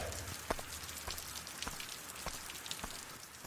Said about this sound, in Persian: ببینم واقعا میخوای با این هوا کارتون رو شروع کنی؟ از سمت شرق داره باد میاد و این بارون به زودی تموم میشه.